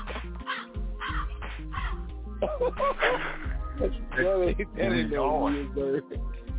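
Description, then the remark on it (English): Several black crows caw loudly, their harsh, repeated calls overlapping one another in an irregular, continuous chorus. “I got the black crows up in this motherfucker.”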